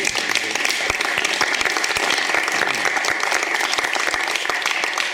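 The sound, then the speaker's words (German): A crowd applauds steadily for three guests, dense overlapping claps forming a continuous wash of sound at a fairly loud, even level for several seconds. “Herzlich willkommen und ich würde mal vorschlagen, machen wir einen Applaus für unsere drei Gäste.”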